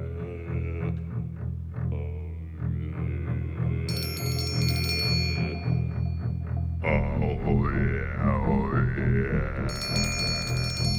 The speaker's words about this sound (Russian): Здесь раздался телефонный звонок.